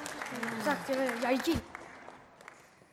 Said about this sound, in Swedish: Vi kan fortsätta ge en applåd till Caroline.